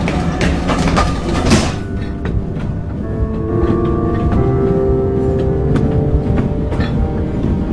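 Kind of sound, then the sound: vehicle, train travelling on rails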